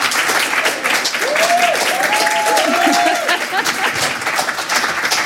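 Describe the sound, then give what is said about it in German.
An audience applauds steadily for several seconds to welcome two guests at a talk on German hip-hop, a dense wash of clapping with a few whoops and cheers rising briefly above it. “Ich bitte Sie um einen tosenden Applaus”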